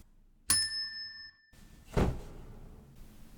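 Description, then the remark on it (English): A single tap on a counter bell at a confectionery shop counter gives a bright, clear ding that rings out for over a second, followed by a soft muffled thump and low rustling. “Now, see that bell? Give it a little tap.”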